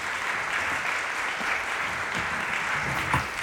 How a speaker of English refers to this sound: Everyone's clap for you again. Why don't we clap for them again?